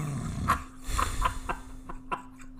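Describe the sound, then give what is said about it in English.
A loud snore: a low, rough rumble with raspy, rattling bursts repeating irregularly for a couple of seconds, with a steady faint hum underneath and no one talking. “That was such a loud fucking snore.”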